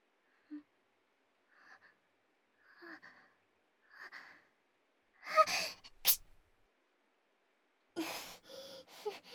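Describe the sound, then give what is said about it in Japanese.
A few soft, quivering inhales build up one after another, then a loud, sharp sneeze bursts out, followed shortly by a second breathy, sputtering sneeze. “すみません、くしゃみ出ちゃいました。”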